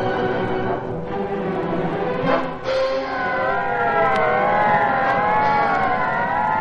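About half a dozen police squad car sirens wail and overlap, their pitches sweeping up and down over a steady rumble of engines, as the squad cars take part in a roundup of a gang. The sound stays loud and continuous throughout, with no one speaking.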